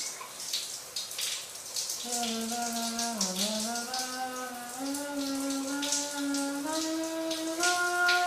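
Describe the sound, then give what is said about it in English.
Steady hiss of shower water spraying for the whole stretch, joined after a couple of seconds by a sustained, slowly wavering hum that rises gradually in pitch over the running water. “I really like the shower.”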